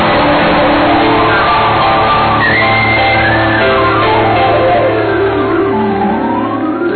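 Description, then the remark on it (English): An audience, urged to scream louder, screams loudly and continuously, many voices blending into a dense, sustained roar with wavering, rising and falling pitches that carry on without a break. “Come on, scream like your voice is louder.”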